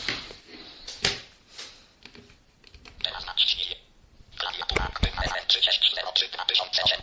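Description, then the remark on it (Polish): Mobile phone keypad buttons, on a phone running Symbian 3rd edition, are pressed deliberately loudly while browsing the phone menu, giving a series of sharp, irregular clicks, mixed with brief electronic tones and some speech. “Będę specjalnie dosyć głośno naciskał klawisze, żeby było słychać.”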